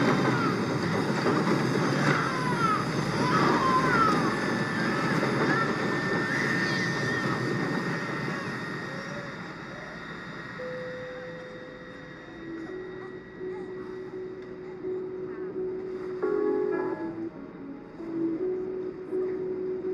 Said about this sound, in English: So sorry, but we have to discontinue our drink service. We are hitting a bit of turbulence. Flight attendants, please take your seats.